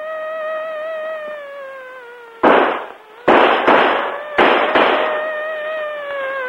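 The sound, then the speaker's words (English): Five loud, sharp gunshots ring out in an alley as Otero is shot, in an uneven volley, some in quick pairs, each with a short decaying tail, over a steady, slightly falling droning tone that runs throughout. “In an alley, Otero gets shot.”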